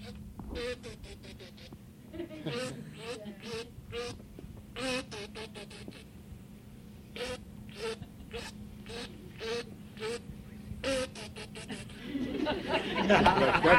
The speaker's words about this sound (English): What kind of duck was that? Real duck.